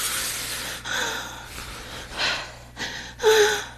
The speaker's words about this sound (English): I can hear your breathing getting labored.